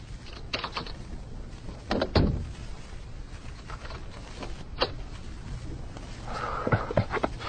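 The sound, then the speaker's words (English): A door is locked with a key left on the outside: scattered sharp clicks and rattles, one louder clunk early on, then a final pair of quick metallic clicks over a low, steady rumble. No one speaks. “I'll come to lock the door in a minute.”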